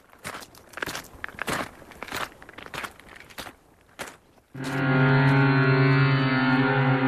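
Several crunchy footsteps, seven paces toward the rising sun, cross gritty ground at a steady walk, fairly loud, then stop as a loud sustained harmonic drone swells in and holds. No one speaks.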